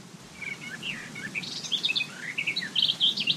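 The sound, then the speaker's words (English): Summer birdsong: several birds chirp and trill in quick, overlapping phrases against a steady low outdoor hum and a breeze, with a faint insect buzz mixed in; the calls grow busier and louder toward the end. “Ah, the sounds of summer. Birds, buzzing insects, a breeze”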